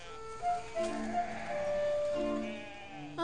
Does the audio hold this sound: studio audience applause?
no